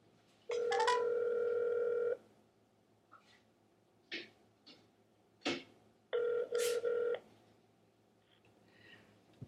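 A telephone call to the speaker's mother: a few short dialing beeps and clicks, then steady electronic ringing tones with harmonic stacks, two long rings separated by a pause, with no voices.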